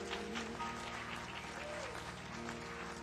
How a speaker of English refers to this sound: Give the Lord a hand clap if we need.